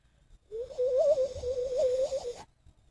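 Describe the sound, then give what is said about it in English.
A person imitates a bird call with a single continuous, warbling whistle-like tone that wavers up and down in pitch for about two seconds, fairly loud and with no talking. “Bird call, dude. You don't know how to bird call?”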